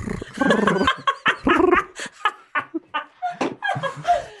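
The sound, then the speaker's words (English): A voice imitates machine-gun fire with a string of sharp, choppy vocal bursts, starting in a dense rattle and breaking into quicker staccato pops, mixed with laughter-like yelps. “I'm trying to think of I can't do a better machine. That's a fart.”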